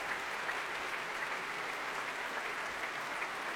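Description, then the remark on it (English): Sustained applause from a full Royal Albert Hall audience at the Proms after Beethoven's Pastoral Symphony, performed by the West Eastern Divan Orchestra under Daniel Barenboim; a dense, even wash of clapping that fills the space steadily without pause, no voices standing out. “Daniel Barenboim, accepting this applause from a full Royal Albert Hall, conducted the West Eastern Divan Orchestra.”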